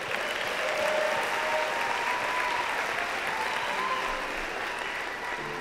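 A crowd applauds steadily, a dense, continuous wash of clapping hands that stays fairly even in loudness for several seconds, with faint voices and a few cheers mixed in.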